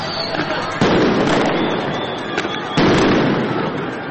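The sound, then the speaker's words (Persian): Tear gas canisters are fired by federal officers in downtown Los Angeles to disperse protesters, two loud, sharp bangs about two seconds apart, each followed by a lingering crackle over a constant outdoor roar with faint voices. “رسانه‌ها گزارش دادند که افسران فدرال در مرکز شهر در تلاش برای متفرق کردن معترضان اقدام به پرتاب گلوله‌های گاز اشکاور کردند.”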